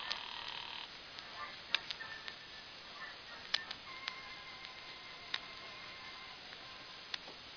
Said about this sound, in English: I will keep ringing his apartment